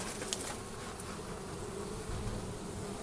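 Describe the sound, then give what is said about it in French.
A dense, continuous swarm of unhappy honeybees buzzing loudly as a beekeeper works among them, an agitated drone with no pauses and no voices for the whole stretch. “Donc, mais ben, dis donc, elles sont pas contentes. Hein. Bah, je suis désolé, je suis avec des abeilles, pas avec des fourmis.”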